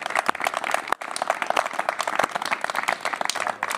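A crowd applauds steadily, many hands clapping in a dense, continuous patter with a few sharper claps standing out, moderately loud throughout.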